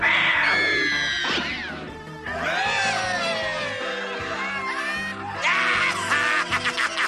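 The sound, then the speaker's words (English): Loud, drawn-out yowls and meows from a big cat, a series of rising and falling wails that run almost continuously, ending in a few shorter, choppy cries. “Or maybe I could turn into a big mean cat. Birds hate cats.”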